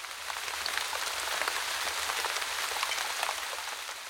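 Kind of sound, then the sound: nature, rain falling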